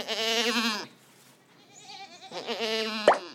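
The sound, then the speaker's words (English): A male goat (a buck or billy) bleats twice, two loud, wavering nasal calls with a short pause between them, with no one talking. “Male goat, a buck or a billy.”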